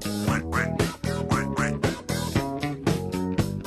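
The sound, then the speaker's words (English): A nasal, quacking talking-duck voice sings over an upbeat 1976 disco parody track that hit number one on the Billboard Hot 100, with steady beat, bass and bright horns, the warbling quacks rising and falling in rhythm with the music. “And that is how a disco song with a talking duck hit number one, people, on the Billboard Hot 100 in 1976.”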